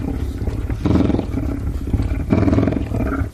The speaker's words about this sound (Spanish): Parece un león. Está ronroneando, ¿eh? Que conste. Sí, pero no es un gato. Empieza por L, pero no es león. Ostras, ¿es de un lince? Sí, sí, yes. ¿Así suena un lince? Así suena un lince. Qué cosa más bonita, por favor.